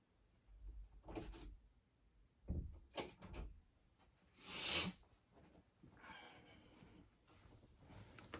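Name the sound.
door being closed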